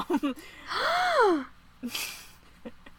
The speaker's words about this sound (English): How dare you? How dare you gasp?